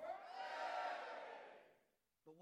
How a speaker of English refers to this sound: When the trumpet sounded, the army shouted. And at the sound of the trumpet, when the men gave a loud shout,